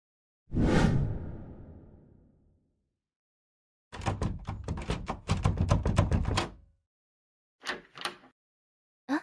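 A soft whoosh, then a key rattles and jiggles in a lock in a burst of rapid metallic clicks, followed by a few separate clicks as the door stays shut. No one speaks.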